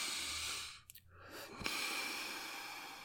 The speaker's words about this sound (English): Again, baby. A nice deep sniff. Breathe in with mommy, come on.